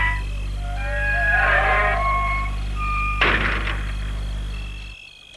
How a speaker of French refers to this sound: Un des hommes sort de voiture. Il va au portail pour l'ouvrir.